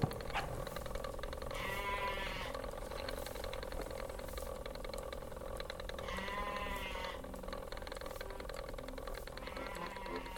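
Sheep bleat several times, each call a wavering, nasal cry spaced a few seconds apart, over a constant low background hum of outdoor noise. No one speaks.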